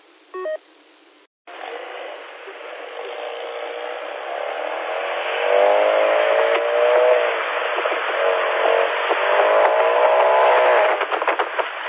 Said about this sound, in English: And they not only walk among us, they drive among us. They're just emulating their favorite race cars. And if the car won't go fast, they'll at least make it sound like it goes fast. Which all it does is gives us a headache.